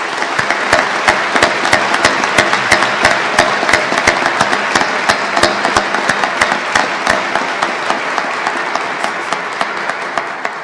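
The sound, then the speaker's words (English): Sustained applause from a large audience for a governor, a dense, steady clatter of many hands clapping at once for about ten seconds, loud without any voices rising above it. “I think we all owe the governor a special round of applause for his courage.”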